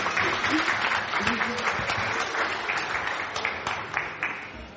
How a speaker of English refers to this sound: Let's give her a round of applause as well, because she works so hard.